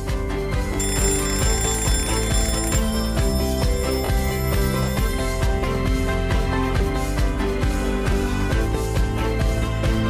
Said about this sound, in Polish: Niech ten dźwięk tego budzika pobudzi także i Ciebie.